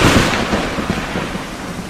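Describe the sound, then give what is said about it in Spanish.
A loud thunderclap from a nearby lightning strike, a dense roaring burst of low rumble and crackling noise that holds steady for about two seconds with no voices. “La palabra se pierde en el estallido seco de un rayo que ha caído cerca.”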